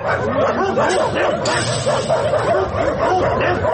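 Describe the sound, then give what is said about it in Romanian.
A crowd of stray dogs barks and yelps at once, a dense, overlapping din that stays loud throughout with no pauses, with higher whimpering yips mixed into the deeper barks. “Astăzi urmăriți un reportaj dedicat problemei câinilor vagabonzi, al căror număr doar în capitală este de peste 4.000.”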